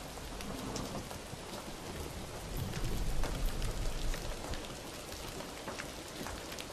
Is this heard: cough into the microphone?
no